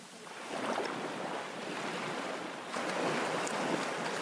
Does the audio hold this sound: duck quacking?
no